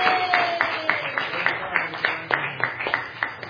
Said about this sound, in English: Congratulations. Go ahead, give them a round of applause.